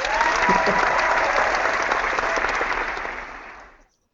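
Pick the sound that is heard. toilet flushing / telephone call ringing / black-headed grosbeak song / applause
applause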